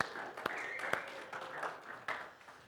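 An audience applauds the mothers present in a steady, dense patter of clapping, fairly soft overall, with a few sharper claps standing out and faint voices or cheers blended into the noise.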